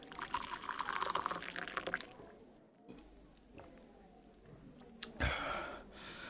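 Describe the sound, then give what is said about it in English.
Water pours into a glass in a steady splashing stream for about two seconds, then quiet follows, broken by a single sharp knock near the end. “Please pass me the water again. I'm really thirsty.”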